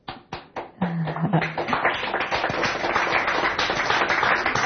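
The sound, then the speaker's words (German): Audience applause in approval during a discussion starts with a few scattered claps, then swells into dense, steady clapping from many hands. A brief tone and some vocal murmur sit under it early on. “Zustimmung aus dem Publikum.”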